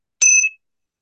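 A single strike of a small meditation gong gives a bright, high metallic ring that fades quickly in quiet surroundings, with no talking.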